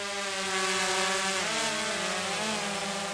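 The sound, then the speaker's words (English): A briefcase-sized quadcopter drone with four propellers, test-flown on a farm by a farmer, whirs with a steady, buzzing whine, its layered pitch bending up and down as the craft flies. No one speaks over the constant hum. “Savage climbs out of his combine and test drives his drone.”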